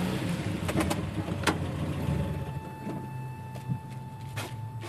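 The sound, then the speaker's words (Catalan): A car being parked at an airport: a low engine rumble with a few sharp clicks and thumps, and a faint steady electronic tone coming in partway through. No one speaks. “Molt bé, doncs ja hem aparcat.”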